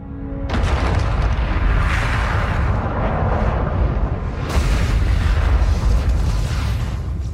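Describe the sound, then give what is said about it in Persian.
A colossal explosion from a depicted collision with the planet Uranus erupts after a brief quiet moment, becoming a sustained, deep roaring rumble, then a second blast surges in partway through and keeps thundering loudly to the end. “اورانوس دچار تصادف وحشتناکی شده.”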